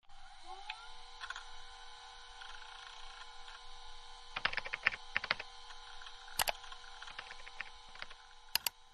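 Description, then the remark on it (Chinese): Quiet bursts of laptop keyboard typing as someone searches online, a quick cluster of key clicks followed by a few isolated taps, over a steady low electronic hum with no voices. “来，打开我的笔记本，咱们好好搜索一下。”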